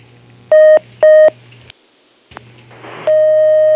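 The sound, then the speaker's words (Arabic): Telephone line tones as a listener's call connects to a radio call-in program: two short, loud beeps in quick succession, a pause and a click, a brief burst of static, then a steady continuous tone over a faint low hum. No one speaks. “نأخذ هذا الاتصال.”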